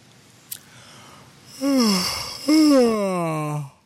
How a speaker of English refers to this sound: I hope I'm making you all yawn, too.